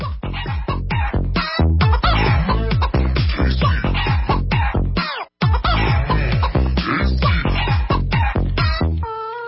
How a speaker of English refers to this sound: That was …. I have no idea who is clucking.